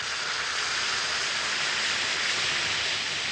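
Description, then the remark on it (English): One or two Speedy Alka-Seltzer tablets fizzing in a glass of water, giving a steady, dense hiss of tiny crackling bubbles that stays even and unbroken for the whole few seconds, with no talking. “You just drop one or two tablets of Speedy Alka-Seltzer into a glass of water like this. Listen to it fizz.”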